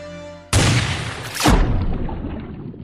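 A loud, sharp starting-gun shot, fired by the referee to start a children's swimming race with the swimmers ready on the starting blocks, cracks out after a low steady hum, followed about a second later by a second booming burst, both trailing off in a long, echoing decay.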